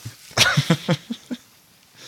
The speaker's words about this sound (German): Was jeder hören möchte, wenn er so einen Podcast hört, wie sich jemand die Nase putzt.